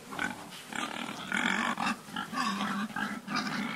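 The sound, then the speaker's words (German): A pig grunts and snorts steadily for a few seconds, fairly loud, with busy outdoor noise around it as it is pushed across a farmyard with a plastic board. “bugsiert mit einer Kunststoffplatte ein fröhliches Schwein über den Hof.”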